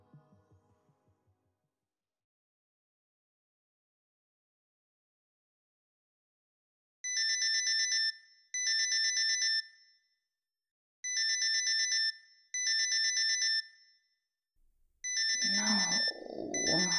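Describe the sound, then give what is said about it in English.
A phone alarm rings in short repeating bursts of bright electronic tones, two pairs separated by brief pauses, fairly loud, with a muffled rustle at the end as someone reaches over to the phone and stops it. “Groan as I reach over to my phone and stop the alarm.”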